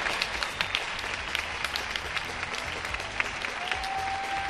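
Sustained applause across Spain for healthcare workers from a large crowd, a dense steady patter of many hands clapping at once, with a faint whistle-like tone rising near the end.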